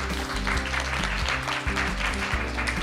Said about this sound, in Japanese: 皆さん大きな拍手でお迎えください。